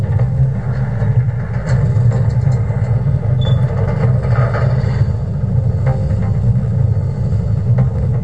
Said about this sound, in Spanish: Está el ascensor moviéndose. Luego de que termine el ruido del ascensor, van a escuchar los pasos de la gente que se mueve para la celda.